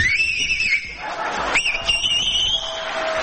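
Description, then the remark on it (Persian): A piercing, high whistle from a young man in the audience with two or three fingers in his mouth cuts through a noisy crowd, holding a long sliding tone, then rising again sharply after a pause amid the background murmur. “ببین این آقا واسه میخوام 3 انگشتشو یا 2 گذاشته تو دهنش داره سوت میزنه.”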